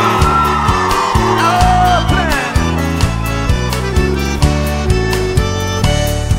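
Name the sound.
audience shouting and cheering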